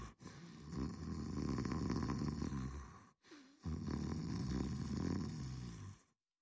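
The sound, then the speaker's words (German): Two long, loud snores from a woman asleep in bed, each a rough, rumbling inhale-exhale lasting a few seconds, separated by a short breath pause, with no talking. “2 Minuten später schnarchte sie.”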